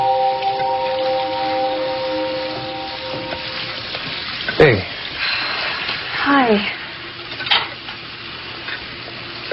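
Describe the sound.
Dishes being washed under a steady stream of running water, with a few sharp clinks of plates and utensils knocking together and faint voices in the background.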